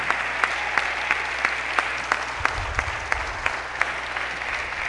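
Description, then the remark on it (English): A crowd gives God a clap, a dense wash of many hands with sharper rhythmic claps standing out about every third of a second, sustained at an even, moderately loud level throughout. “Now, if you really believe that, give God a good clap.”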